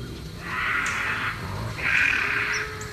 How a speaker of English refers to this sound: That's bobcat? Is that you getting sound effects or is that an actual... No, remember we actually played this with the bobcat screams and people were freaking out by the screams in the woods?